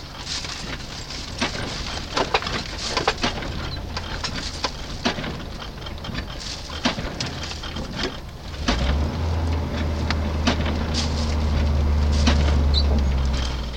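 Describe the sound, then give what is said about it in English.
Steady rain patters in a dense wash of taps and drips while people are out fishing, and a low, droning rumble joins in about midway and continues to the end. “This is fishing in the rain.”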